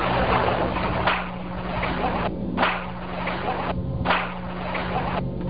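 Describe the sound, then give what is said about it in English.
One sharp hand clap repeated several times at a steady, evenly spaced pace, each hit trailing off in a ringing wash, with a low constant hum underneath and no talking. “It was just a single clap in the original file, but it's repeated several times.”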